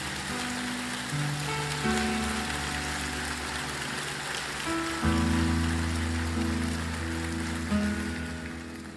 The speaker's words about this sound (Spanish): Dele un fuerte aplauso al Señor en esta mañana.